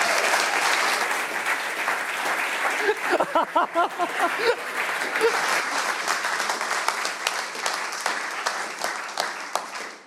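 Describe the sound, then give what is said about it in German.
An audience applauds loudly and steadily for the full ten seconds to welcome a speaker giving a talk on resilience, a dense wash of clapping with a few brief voiced whoops rising out of it partway through before it tapers slightly at the end. “Herzlich willkommen mit einem tosenden Applaus.”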